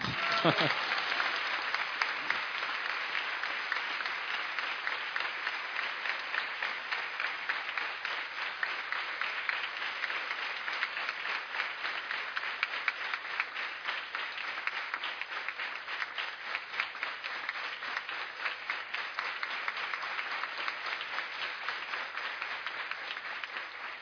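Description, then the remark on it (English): An audience applauds a man steadily for over twenty seconds, a dense, continuous patter of many hands clapping at an even level from start to finish with no pauses. “So you give a clap to him also.”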